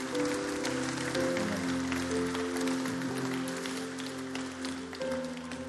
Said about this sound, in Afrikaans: Kom ons gee vir die Here 'n applous. Halleluja.